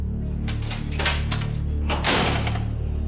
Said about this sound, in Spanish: Esa reja suena horrible, usted la abre y suena horrible, lo mismo la puerta. Eso tiembla toitico esto al abrir la puerta o cerrarla.